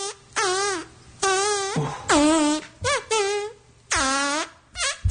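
A string of loud, pitched fart noises, some long and wobbly, others short and sharp, sputtering one after another in a rough rhythm, like a heavy metal tune played entirely in fart sounds.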